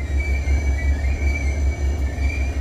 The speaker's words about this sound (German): Der Zug kriecht an Seen, Lichtungen und Wäldern vorbei.